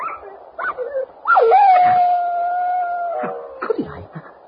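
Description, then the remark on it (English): A dog lets out a few short yelps, then one long, steady howl that holds for about two seconds before breaking into whimpering cries. It sounds fairly loud, with no talking. “Martin, the dog.”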